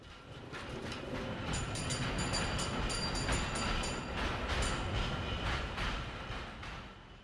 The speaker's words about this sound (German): Die erste elektrische, meinen Sie die Straßenbahn? Ja, so nennt man die neuen Straßenbahnen. Elektrische. Ach so. Weil das eben keine Pferdebahnen mehr sind, sondern weil sie mit elektrischem Strom fahren. Eine tolle Sache.